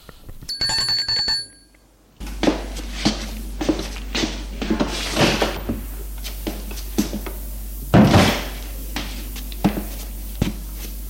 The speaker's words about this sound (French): On sonne à la porte.